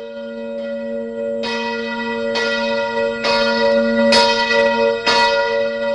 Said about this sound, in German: Am Abend vom 20. Februar 1938 haben in verschiedenen romanischen Ortschaften die Kirchenglocken geläutet, nachdem man im Radio das Abstimmungsresultat gehört hat.